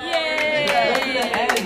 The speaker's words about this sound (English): Everyone clap.